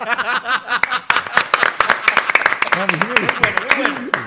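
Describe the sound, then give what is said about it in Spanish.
A crowd bursts into applause, with dense, irregular claps continuing steadily for several seconds, mixed with laughter and vocal chuckles rising and falling throughout. “Yo sí lo aplaudo porque tiene coyuntura.”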